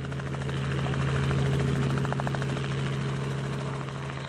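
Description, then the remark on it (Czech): A helicopter parked on a meadow at the edge of town runs steadily and loudly as Olga Lounová boards it and flies off. Its low whine and rapid rotor chop hold constant across the whole clip, with no voices. “Po krátkém rozhovoru Olga Lounová nasedá do helikoptéry zaparkované na louce na kraji města. Olinka odlétá.”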